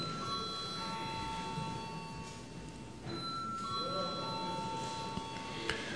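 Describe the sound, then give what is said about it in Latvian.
A steady electric bell rings continuously for several seconds in a parliament chamber before a vote, its high metallic tone sustained over a murmur of background room noise. “Lūdzu zvanu.”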